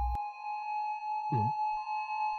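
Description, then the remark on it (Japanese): A police car siren sounds as a steady, high-pitched tone that holds for the whole stretch, with a short low rumbling burst partway through. “しかし、その大金と一緒に、どこからかパトカーのサイレンが聞こえるのだった。”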